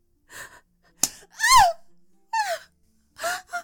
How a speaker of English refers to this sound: Have my delicate curves and my soft gasps and moans failed to delight you, master?